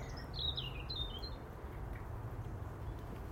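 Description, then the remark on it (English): A small bird tweets a quick run of thin, high chirps, several short notes slipping downward within the first second and a half, then only a soft, low background rumble remains. “And the wee birdie's Twitter tweet.”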